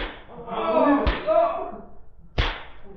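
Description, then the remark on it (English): A boss lashes exhausted mine workers with a whip in a mine: two sharp, loud whip cracks snap out about a second and a half apart, with strained voices and groaning murmurs continuing underneath and between the lashes. “Hand me that whip.”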